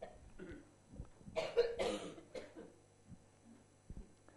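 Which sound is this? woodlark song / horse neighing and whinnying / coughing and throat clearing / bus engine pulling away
coughing and throat clearing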